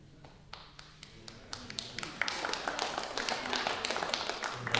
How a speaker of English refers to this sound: Thanks for giving him a round of applause.